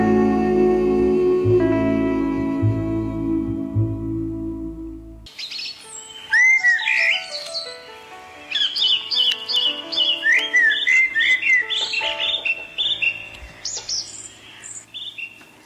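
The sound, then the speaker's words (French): After a few seconds of a sustained, humming tone, swallows start chirping: lively overlapping twitters and quick high calls, steady to the end, with no voices. “Aux hirondelles.”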